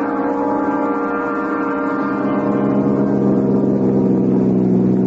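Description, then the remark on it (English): A convertible car's engine, top down, drones loudly and steadily for several seconds, its rich, buzzing hum rising slightly in pitch as it pulls along, with no voices. “I put the top down and drove over by the old quarry, wrenching the convertible around the turns until the tires screeched.”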